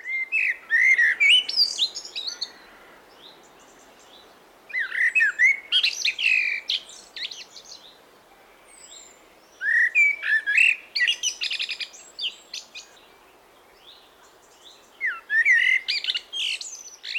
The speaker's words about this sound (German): Wie klingt sie denn nun, die Amsel? Man hört sie oft morgens im Morgengrauen, aber auch abends, kurz nachdem die Sonne untergegangen ist, hört man sie nochmal ihr Liedchen trällern.